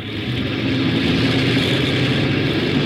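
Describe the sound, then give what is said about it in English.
A loud airplane engine, the port engine of a plane being started before takeoff, roars, building slightly at the start and then holding a steady, droning rumble with a harsh hiss on top. No voices. “Port engine one.”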